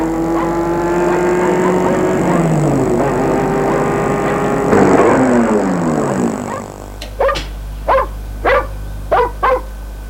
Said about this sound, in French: On entend le bruit d'une voiture qui arrive.